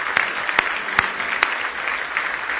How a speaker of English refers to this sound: Give God a hand clap of praise this morning if you love Him.